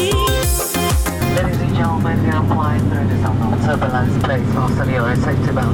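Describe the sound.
A steady, low airplane cabin engine drone hums throughout during a flight as the plane enters turbulence, with a person talking over it after a short burst of music at the start.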